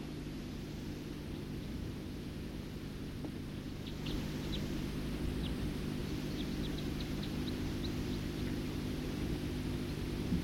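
bird, bird song

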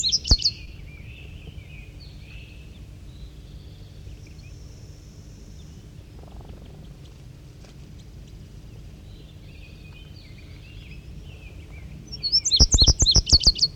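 bird, birds singing

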